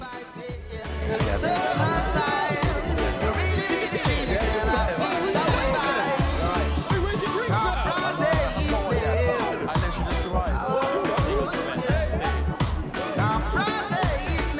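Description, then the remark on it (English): Dense party chatter from a crowd around a makeshift bar, many voices overlapping into a loud, continuous babble, with a steady low thumping beat running underneath the whole time. “He pushes through the crowd to get to a makeshift bar and greets a buddy, throwing his arms around the young black lad.”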